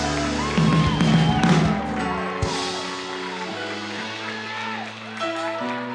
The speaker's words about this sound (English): He loves it when we scream for him. Let's do it again.